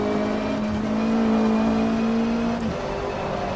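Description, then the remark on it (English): Synthetic race car engines from the Left Four Long multiplayer racing demo drone steadily with a sustained, whining tone that holds pitch and then drops suddenly near the end, loud and continuous with no talking. Other cars can be heard as they change laps. “And you can hear the other cars, I think, when they change laps.”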